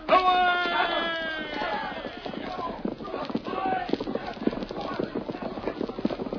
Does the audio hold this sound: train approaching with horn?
no